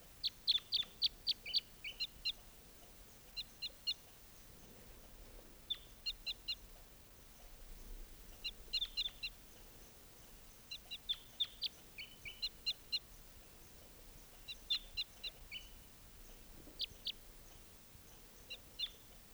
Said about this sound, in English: So recording just captured that bird, and he'll be number 621.